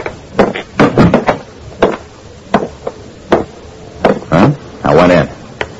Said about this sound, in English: I went on to room 6, opened the door.